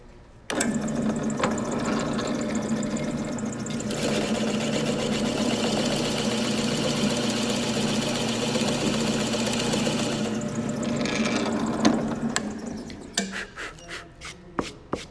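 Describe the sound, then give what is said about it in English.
A drill press motor starts and runs steadily for about twelve seconds, its steady hum roughening as the bit cuts a clean hole through a wooden charcuterie board for a handle or hanging hook, then winds down with a few clicks and knocks. “I would take my piece of wood and then to put a handle on the inside of it or like a hanging hook, what we use is a drill press so that we can get a nice clean hole all the way through the wood.”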